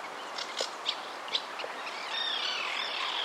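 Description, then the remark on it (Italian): Small birds chirp in quick, scattered tweets, then break into a continuous high warbling trill. Fairly soft, with no voices. “Gli uccellini volano veloci a chiedere aiuto.”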